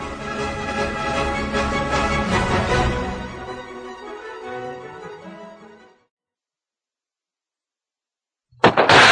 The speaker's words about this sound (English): As gunshots echo across the windswept, snow-covered reaches of the wild Northwest, Quaker-puffed wheat and Quaker-puffed rice, the breakfast cereal shot from guns, present the Challenge of the Yukon.